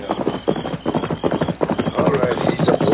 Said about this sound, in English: All right, quiet, everybody. It's a horse galloping this way. Yeah, that ought to be Custer. It's too dark to tell for certain.